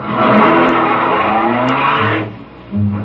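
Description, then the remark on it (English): A car engine starts up and pulls away in the rain, a broad rumbling roar with rising revs that eases off after two seconds before a brief low hum returns. No one speaks. “Let's get back in the car.”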